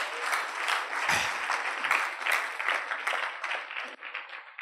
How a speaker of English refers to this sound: Yeah. Praise the Lord. You clap for that as well.